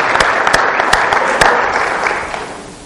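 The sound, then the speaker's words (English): An audience breaks into applause for the Northeast Christian High Schoolers, a dense wash of clapping with sharp individual claps popping out early, holding steady before gradually thinning out toward the end. “So can we give a round of applause for the Northeast Christian High Schoolers?”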